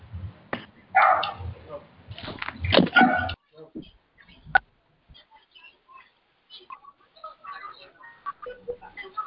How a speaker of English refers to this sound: I hear somebody's dog.